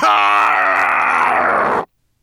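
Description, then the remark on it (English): A man's voice lets out one long, loud, growling roar imitating the monster Nettlebrand opening his jaws, rough and sustained for nearly two seconds before cutting off abruptly into silence. “Opening his jaws, he roared so loud that Gravelbeard threw himself on the sand, trembling, and pulled his hat down over his ears.”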